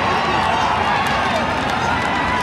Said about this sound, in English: Schultz acknowledging the plaudits of the crowd.